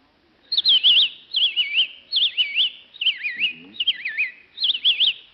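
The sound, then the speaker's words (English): A person whistles an imitation of a robin's song: six short, warbling phrases of rising and falling notes, repeated in a steady rhythm, fairly loud. “A robin.”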